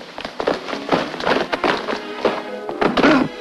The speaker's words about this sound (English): Stepping outside, she closes a large wooden door behind her. As the princess trots down a wide set of stairs, the wooden door opens and shuts again.